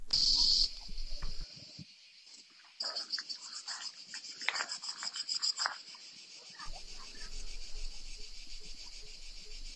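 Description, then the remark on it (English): A dense chorus of cicadas in the trees around a house on Strada Grossetana, recorded with an AirPods microphone, buzzes steadily in a high, pulsing drone from several directions, with scattered faint knocks and murmurs from a family playing in a nearby pool underneath. “You know, so you can hear these, you know, this like these hordes of cicadas in the different trees all around the house that we're staying in there.”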